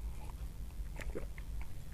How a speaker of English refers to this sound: Let me take a drink of wine first.